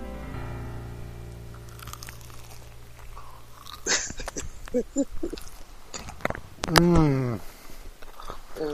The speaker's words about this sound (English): Hold on, we gotta try the nuggets too, right? Yeah. Oh, man. They're crispy. Hold on. Let's see if we can hear that crunch. Hold on. One more crunch.